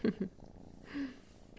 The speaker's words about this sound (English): And that's a noise that we didn't know you could make. It sounds an awful lot like purring. Are you happy, pretty girl?